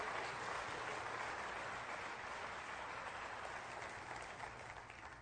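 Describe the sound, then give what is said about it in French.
A crowd applauds steadily, a dense wash of many hands clapping at once with no single claps standing out, holding fairly even before easing slightly toward the end. “Quelqu'un devrait applaudir.”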